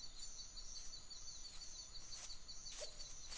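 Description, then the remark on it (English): Faint, steady high-pitched chirping and trilling of birds in a forest on a sunny day, in a quiet outdoor setting, with a few brief sharper chirps standing out near the end. “The sun is shining, the flowers are blooming, the birds are chirping.”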